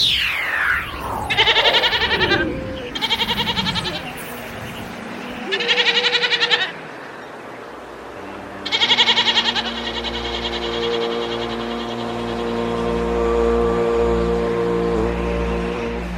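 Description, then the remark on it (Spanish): A person imitates a goat, letting out several loud, wavering bleats in separate bursts, then one long drawn-out bleat that trails off. No talking is heard. “Con lo bien que haces de cabra, además, ya.”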